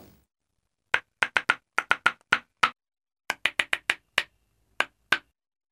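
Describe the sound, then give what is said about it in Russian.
Wooden spoons click together in a bouncy, playful rhythm: about sixteen crisp, bright clacks in quick clusters, a brief pause midway, then more lively taps, with no voices. “Мы тоже умеем играть, сказали деревянные ложки и сыграли что-то веселое.”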